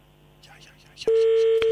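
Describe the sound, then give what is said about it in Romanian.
A telephone call being placed to validate a contest, dialing a listener whose SMS was picked by computer: faint, muffled voices in the background give way to a loud, steady ringing tone that holds for under a second, briefly interrupted by a click near the end. “Și încercăm să sunăm,”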